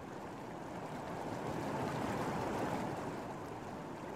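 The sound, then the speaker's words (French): A steady, full roar of rushing water from a waterfall in the desert at Palm Springs, holding constant and fairly loud throughout with no voices. “L'énergie pure, wilderness, sous le désert, la cascade.”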